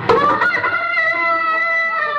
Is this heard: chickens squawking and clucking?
yes